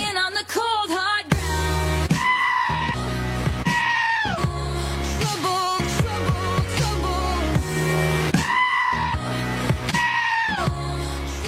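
A goat screams in loud, drawn-out bleats again and again, cut in rhythm over a thumping pop backing track, each cry wavering and cracking at the top.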